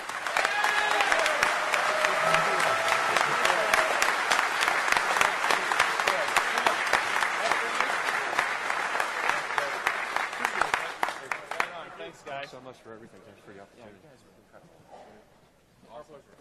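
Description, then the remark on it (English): A crowd applauds the CTF organizers steadily and loudly for about eleven seconds, dense clapping with a few scattered cheers, then the applause thins out and fades as a voice begins talking. “Let's give them an incredible round of applause.”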